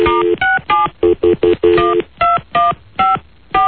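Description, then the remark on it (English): A telephone number being dialed to call a contest finalist: about a dozen quick touch-tone beeps in uneven bursts, some running together, each a steady two-note electronic tone, fairly loud with no talking. “So we're calling Lance.”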